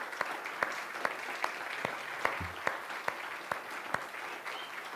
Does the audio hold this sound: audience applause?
yes